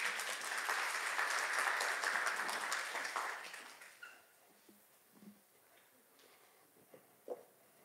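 A crowd applauds with dense, steady clapping for about four seconds, then it thins out and fades, leaving only a few scattered claps and small sounds.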